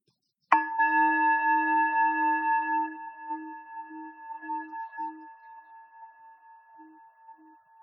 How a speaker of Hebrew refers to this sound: ואם ישמע פעמון, נתחיל בתרגול.